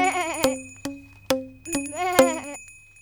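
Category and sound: animal, goat bleating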